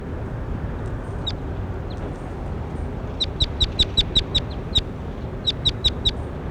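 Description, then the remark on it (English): A bird, recorded as bird 21, calls in quick bursts of sharp, high chirps, a run of about seven evenly spaced notes followed by a shorter run of four, over a steady low rumble of background noise. “That was bird 21.”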